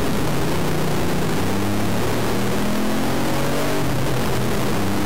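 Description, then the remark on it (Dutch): A car engine revs loudly up and down over a broad roar of noise, its pitch rising steadily in sweeping pulls with no one talking; the car is in its ST or circuit drive mode with the performance exhaust valves open. “Maar de performance uitlaten en ook de klepjes die gaan open.”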